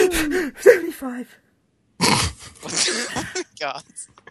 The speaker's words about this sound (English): That was going to be a sneeze. Sorry about that.